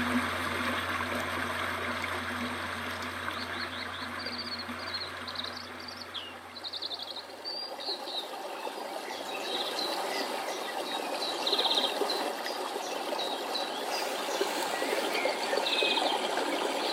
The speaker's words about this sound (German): Und die Tropfen werden zu einem kleinen Rinnsal und dringen aus der Tiefe des Berges wieder ans Licht.